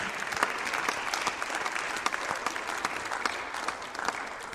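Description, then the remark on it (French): Sustained audience applause for the participants of a talk event, a dense steady patter of many hands clapping at a fairly even level for several seconds, with no voices. “On les applaudit.”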